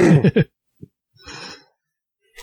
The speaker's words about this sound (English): I'm sure I'll do a lot of annoying throat clearing and some subdued coughing during the cast. My apologies in advance.